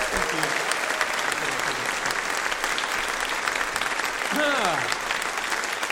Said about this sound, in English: And gentlemen, give a massive applause.